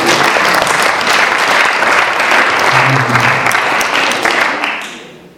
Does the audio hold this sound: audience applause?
yes